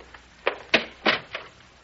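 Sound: door being closed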